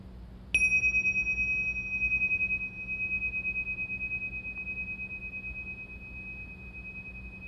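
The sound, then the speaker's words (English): A single bell strike at the start, a clear high metallic tone that rings out steadily and slowly fades over several seconds, with a faint low hum underneath and no voices. “And this is a different bell than the bell you've heard before.”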